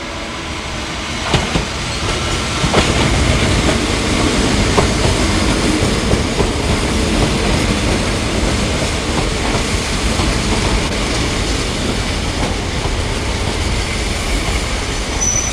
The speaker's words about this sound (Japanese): 4番乗り場に折り返し27分発1時1が参ります。4番乗り場前の方はご注意ください。名古屋行き急行でございます。